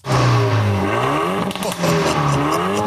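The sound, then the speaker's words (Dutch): A loud Renault Megane RS Trophy R car engine revs hard, its pitch climbing and dropping in repeated surges with a brief crackling pause midway, with no voices. “Ja, ik mocht rijden met de Renault Megane RS Trophy R.”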